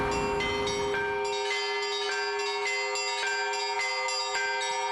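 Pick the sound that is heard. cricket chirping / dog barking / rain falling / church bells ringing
church bells ringing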